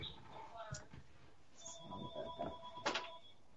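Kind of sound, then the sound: household object, door being shut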